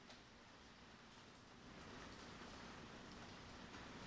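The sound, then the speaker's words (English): Steady rain falling outside, a soft continuous hiss with no distinct drops, fairly faint, growing slightly fuller partway through. No voices are heard. “yes, there's the rain.”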